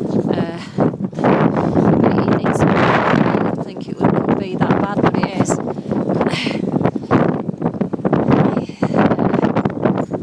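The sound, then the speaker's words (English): Strong coastal wind on a cold winter's day buffets the microphone in loud, continuous rushing gusts throughout, drowning out the sea, with a voice talking underneath the roar. “You won't be able to hear the sea because of the wind, because it's so strong, but the waves are good.”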